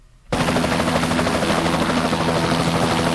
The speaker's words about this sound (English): A helicopter. In order to avoid these, you stay on the ground without jumping.